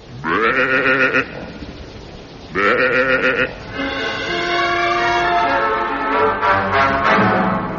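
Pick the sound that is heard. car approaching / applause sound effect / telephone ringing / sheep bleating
sheep bleating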